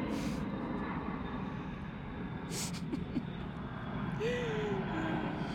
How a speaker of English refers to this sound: Plane.